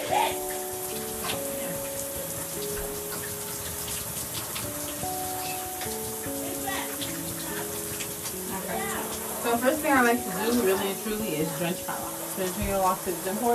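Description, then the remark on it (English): Warm shower water runs in a steady, loud hiss the whole time during a hair wash, with a tonal melody playing over it and a voice briefly rising above the spray near the end. “So, yeah, come hop with me in my shower, guys.”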